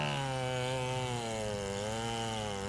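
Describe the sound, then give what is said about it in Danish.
A chainsaw engine runs steadily, its buzzing whine wavering slightly in pitch as it cuts through wood, continuous and fairly loud with no voices. The chainsaw is felling the last oak trees on Ege Allé, an otherwise quiet, snow-covered residential street, early on a January morning. “Så en tidlig morgen i januar i år runger lyden af en motorsav på den ellers stille, tilsnede villavej, mens de sidste egetræer bliver fjernet fra Ege Allé.”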